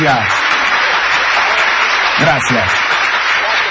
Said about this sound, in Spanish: que la verdad lo aplaudiría si no estuviera tan solo y sonara tan triste. Una sola persona aplaudir.